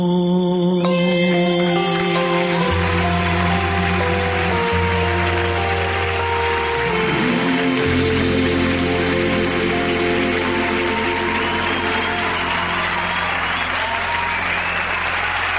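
A large audience breaks into sustained, dense applause that swells over the closing notes of a song, with clapping continuing steadily after the music fades out.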